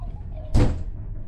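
A room door swings shut with a single firm thud, fairly loud, against a low steady background hum; no one speaks.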